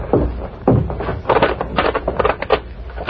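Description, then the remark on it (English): Clattering mechanical noises of a lock being worked and a private door pulled open, with a few heavy knocks followed by a run of quick rattling clicks. “You have to hold a conference before you open the door?”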